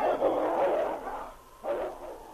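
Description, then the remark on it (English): King, Sergeant Preston's husky, barks and snarls while fighting a wolf, holding it by the throat: two long, rough midrange vocal bursts, the first over a second long, then a short gap and a second burst, with no talking. “it's a husky. He jumped the wolf.”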